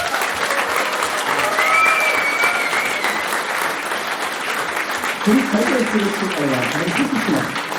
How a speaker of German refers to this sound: Von daher nochmal großen Applaus für den Felsenkeller.